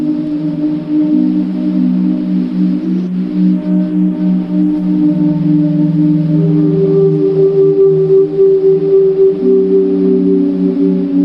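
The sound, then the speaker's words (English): Slowed-down tape of whistling in a stairwell, played back at 7.5 inches a second: low, sustained, layered tones that hum like an ethereal choir, with pitches shifting every few seconds. Steady and fairly loud, no voices. “And suddenly, you know, instead of my sort of really out of tune whistling, you get this kind of ethereal choir sound just from that one recording of whistling in a stairwell.”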